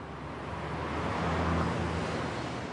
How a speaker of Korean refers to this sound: 빠르게 움직이는 자동차.